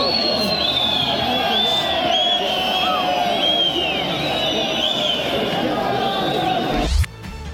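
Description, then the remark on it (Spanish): A dense crowd of transport union workers at the Estadio Municipal de Villingenio in Bolivia roars with sustained whistling and booing as the football team Always Ready leaves the pitch, shrill whistles streaking above a thick wall of jeering voices, steady and loud until it cuts off abruptly near the end. “Así, con esas silbatinas y esos abucheos, es que fue despedido Always Ready de la cancha del Estadio Municipal de Villingenio por este sindicato de transportistas en un hecho realmente insólito.”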